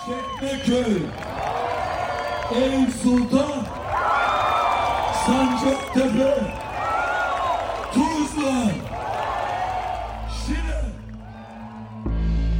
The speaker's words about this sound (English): After it became clear that İmamoğlu would win, I headed to City Hall, where I found thousands, perhaps tens of thousands, of CHP supporters listening to İmamoğlu give his victory speech, but also singing, dancing, lighting flares, and honking.